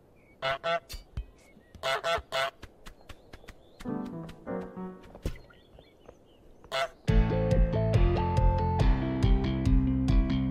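A run of harsh, nasal goose honks in irregular bursts, some doubled and some in quick clusters, then loud music with a steady beat takes over for the rest.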